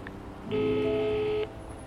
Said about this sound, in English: I pick up the phone and dial Mummy.